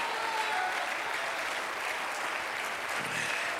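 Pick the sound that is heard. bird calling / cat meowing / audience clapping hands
audience clapping hands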